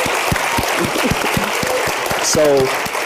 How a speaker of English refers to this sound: So let's give Angela Glover Blackwell another round of applause.